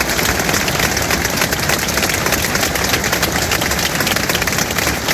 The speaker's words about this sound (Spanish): Mientras tanto, los compañeros de Sergio y de Jesús les han recordado este mediodía con un emotivo minuto de silencio que ha finalizado con un largo aplauso.